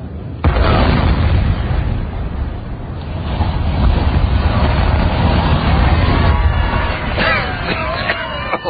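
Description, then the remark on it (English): A sudden explosive demolition blast gives way to a long, heavy rumbling roar as a tall factory chimney collapses, with crackling, clattering debris near the end. The sound is loud and sustained throughout. “We've got another factory chimney tomorrow, haven't we?”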